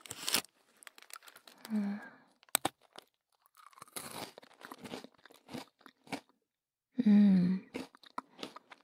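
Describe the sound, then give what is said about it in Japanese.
Close-up crunchy chewing, loud and crisp, with irregular bursts of crackling bites and mouth sounds, plus a few brief vocal murmurs in between. “こんな近くだと僕の咀嚼音もしっかり聞こえちゃう？”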